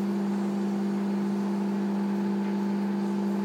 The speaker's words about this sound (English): I'll move this because I need the microwave. About 20 seconds, I think. Start. High power microwave. 30 seconds. There's a reason for this.